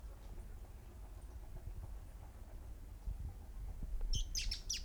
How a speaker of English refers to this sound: Well, several birds still. They're chasing one another, but they seem to occur in twos. Thirteen. Four birds there. Apparently two pairs interacting.